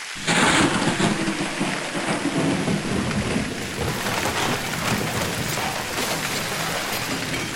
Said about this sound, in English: Man, what a storm. Give it to him, God. Flood the world.